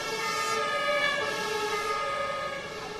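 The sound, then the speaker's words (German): Sirens of fire brigade and police vehicles, alerted to a huge animal on a car park by an anglers' clubhouse, wail continuously: a loud, steady, high-pitched tone that drifts slowly in pitch, with no voices over it. “Sofort werden Feuerwehr und Polizei alarmiert, die kurz darauf das Gelände absperren.”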